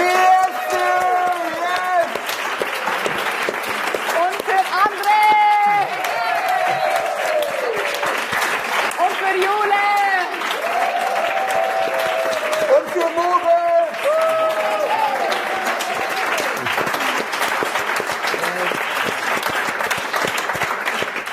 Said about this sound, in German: Deswegen, Ladies and Gentlemen, macht nochmal einen kräftigen Applaus